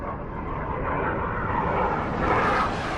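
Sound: military aircraft flying overhead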